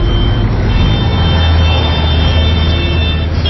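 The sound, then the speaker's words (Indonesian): Steady, loud weekend traffic-jam ambience in Jakarta with idling cars and buses, a dense engine rumble filling the scene and a faint high electronic tone running through it, no voices. “Aduh, macet banget sih. Padahal kan weekend.”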